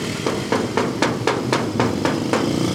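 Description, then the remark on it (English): Someone knocks on the door of the biggest house on the block in a steady, even rhythm, about nine firm raps spaced a quarter second apart, with a low background hum and no voices. “We knocked, waited, and waited, but we could see no one had been here for a long time.”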